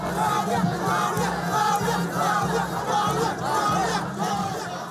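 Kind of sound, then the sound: crowd, crowd cheering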